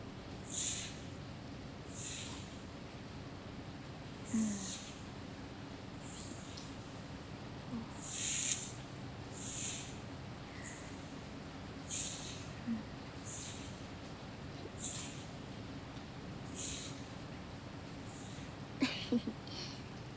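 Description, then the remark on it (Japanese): Soft, steady rain hiss runs throughout at a low level, with breathy, sniffing bursts recurring about every two seconds on top. No one speaks. “雨の音だね。”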